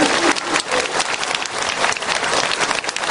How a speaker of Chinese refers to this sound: 鼓掌